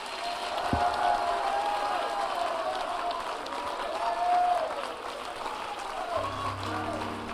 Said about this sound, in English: Come on, clap your hands. Lift your hands. Hallelujah.